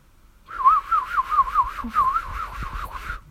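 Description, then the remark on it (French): A white bird on a branch in a forest sings a warbling, trilling song that rises and falls in quick wavering notes for about three seconds, clear, with no talking. “Il chantait si bien que les enfants s'arrêtèrent pour l'écouter.”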